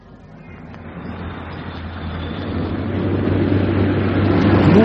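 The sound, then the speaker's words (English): A car engine builds steadily in loudness over several seconds, a broad rushing roar with a low droning hum, as a vehicle with the number UYT576J speeds by. “Hey, what was the number of that car we're supposed to look out for?”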